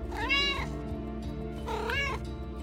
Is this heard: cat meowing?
yes